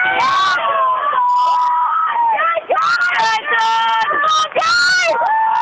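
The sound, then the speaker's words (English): A crowd cheers loudly and continuously, with overlapping high-pitched screams, whoops and yells rising and falling for several seconds, after the Churchill sandwich boat bumps up in a rowing bumps race just before the first post corner. “Churchill are pretty happy.”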